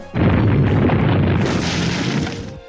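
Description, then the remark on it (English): A video game earthquake attack effect for the move Quake: a sustained, loud rumbling roar with crackling bursts, booming for over two seconds before cutting off abruptly. No voices are heard. “Choose a move. Quake.”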